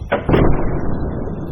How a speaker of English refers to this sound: He's going inside. Oh no! The door is closing.